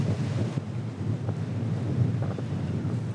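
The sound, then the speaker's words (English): Strong wind buffets the microphone by the Mississippi River in driving wind and rain, a continuous low rumble with gusty thumps and rustling surges throughout and no voices. “Okay, it's getting a little too windy here.”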